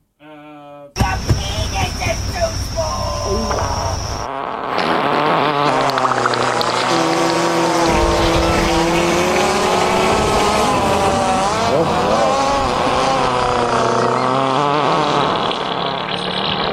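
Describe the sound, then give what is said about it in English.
A loud, nonstop barrage of fart noises, one blaring, wavering raspberry after another piled together, running for around fifteen seconds after a brief opening note. “He deserves a Your Penis Is Too Small and a fart montage followed by a please clap.”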